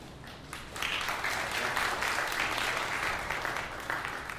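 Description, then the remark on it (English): An audience applauds a speaker being introduced on Father's Day, the dense patter of many hands swelling after a brief, quieter start and then holding at an even, fairly loud level throughout. “Don't applaud for me, please.”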